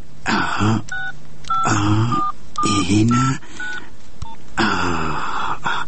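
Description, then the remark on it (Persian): A phone number is dialed to call a nephew, as a quick series of short, mid-pitched keypad beeps, about eight in an uneven rhythm, with bursts of muttering voice sounds between them. “خو باش که ناله به اون بیادرزادیم یک زنگ بزنم.”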